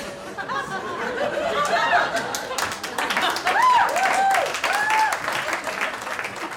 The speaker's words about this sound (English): applause for that.